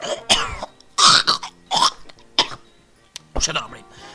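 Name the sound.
coughing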